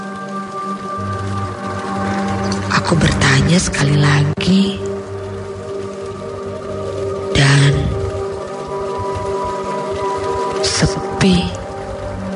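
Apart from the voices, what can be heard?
water running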